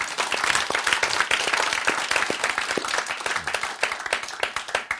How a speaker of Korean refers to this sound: 박수.